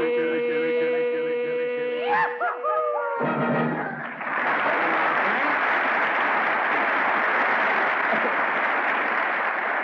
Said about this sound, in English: Well, Frank, you heard that applause.